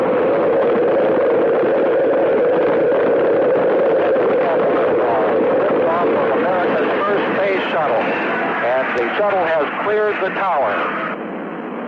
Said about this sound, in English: 5, 4, we've gone for main engine start. We have main engine start.